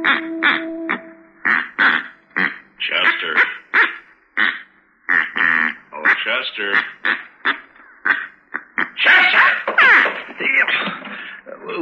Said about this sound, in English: What is that? Oh, this is a duck call. I ordered all the way from St. Louis. It just come in the mail. Doesn't sound like any duck I ever heard.